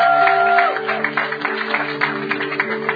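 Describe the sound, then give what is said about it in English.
A crowd claps steadily in dense, continuous applause, many hands at once, with a low sustained musical drone holding underneath throughout. “And let's give them one more round of applause so they never come again, never forget to come again.”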